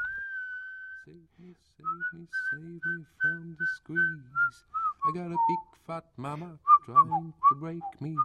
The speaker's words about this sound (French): Luc était entré dans l'appartement du Thermae Palace en sifflotant mécaniquement un air qu'il avait entendu en longeant la Königin Astrid Lane.